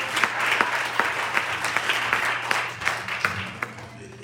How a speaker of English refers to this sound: Y'all give God a hand clap praise. Y'all so quiet today.